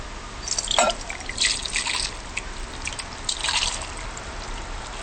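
Hot long-rice broth splashes and dribbles into a pot as it is poured, in a few uneven bursts, with light drips and trickling between them, moderately loud, with no talking.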